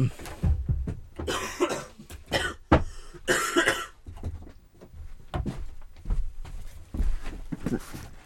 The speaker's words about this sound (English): So when you need to cough, come round here, cough into this microphone, but press the cough button. Is that all right? Yeah, that's fine. For the rest of the show. You are going to get a cough.